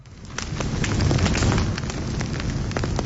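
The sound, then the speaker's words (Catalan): A steady, roaring festive fire from Catalan popular celebrations crackles and pops continuously, with dense sharp snaps over a deep rumbling hiss, fairly loud, with no voices. “Avui comencem bé, amb foc, però foc del bo, no del que crema i fa mal als boscos, no, foc de festa.”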